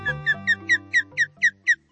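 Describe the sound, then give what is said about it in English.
An osprey, a male delivering a fresh catch to his mate and chicks, calls in a quick series of about eight sharp, downward-slurred whistled chirps, evenly spaced and loud and clear, over a faint low background hum. “Osprey are impressive birds of prey with a wingspan more than 5 feet across.”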